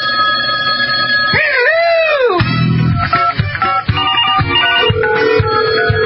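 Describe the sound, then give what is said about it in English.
A telephone rings loudly for an incoming call to the Robert Scott Bell Show, a bright electronic trill with a brief swooping tone early on, then rapid repeating bursts of ringing that continue to the end, with no voices. “All right, well, we have a phone call of all things to happen on the Robert Scott Bell Show right now.”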